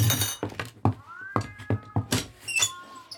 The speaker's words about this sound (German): Der ist aber laut. Das hört sich eher nach vielen Katzen an.